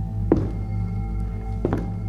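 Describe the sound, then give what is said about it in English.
Two dull, heavy thuds about a second apart, slow footsteps coming from a kitchen on a hard floor, set against a steady low background hum with no talking. “We started across the living room towards the door when footsteps came from the kitchen.”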